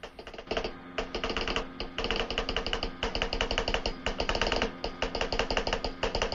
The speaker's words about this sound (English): The telegraph operator taps out a Morse code message, reading from notes in front of him on the desk.